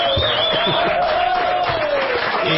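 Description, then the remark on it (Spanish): A crowd, the audience of the show La Venganza Será Terrible, shouts and cheers together in a dense, steady roar with scattered claps, while a thin sustained tone hums underneath throughout the short burst. “Hemos escuchado porque si no aparecemos solos, griten algo. Por favor.”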